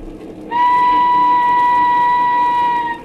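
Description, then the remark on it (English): A train whistle blows one long, steady, loud note for about two and a half seconds, sounding over the low, continuous rumble of a train in London getting underway. “Some 50 years ago, in London, a young and handsome widow, Lucy Muir, left the home of the mother and sister of her departed husband and boarded a train.”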